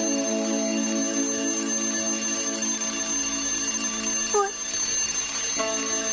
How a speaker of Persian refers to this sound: از صدای زنگم بیدار نشدن.